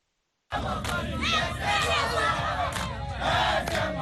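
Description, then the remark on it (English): Thousands of mainly young people chant and sing together at the Martyrs Stadium in Kinshasa, Democratic Republic of Congo, before sunrise, gathering for a meeting with Pope Francis; a loud, dense wall of overlapping shouting and melodic singing that swells steadily after a short silent start. “Thousands of mainly young people chanting and singing arrived at the Martyrs Stadium in Kinshasa before sunrise on Thursday to attend the meeting with Pope Francis on the third of his four-day visit to Democratic Republic of Congo.”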